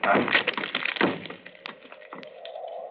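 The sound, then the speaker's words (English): Two heavy thuds slam against a locked wooden door being broken in, followed by a few sharp cracks and a long, low creak as it gives way. “But Holmes, the door's locked. Break it in.”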